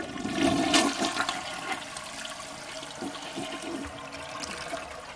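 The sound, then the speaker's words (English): A toilet flushes, starting with a loud rushing surge of water that settles into a steady swirling drain and gurgle for several seconds, with no voices. “Okay, here's the flush.”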